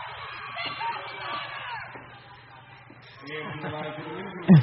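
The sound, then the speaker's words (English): The Holy Names University student cheering section at a basketball game jeers in disapproval, a dense wash of overlapping shouting voices that dips briefly before swelling again, ending with a sharp loud burst. “And Holy Names cheering session definitely shows their distaste for that.”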